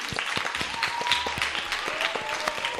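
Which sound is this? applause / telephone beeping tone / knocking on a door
applause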